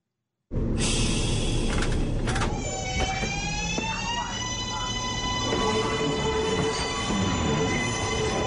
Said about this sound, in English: First, if you have never ridden the sprawling New York City subway, welcome aboard.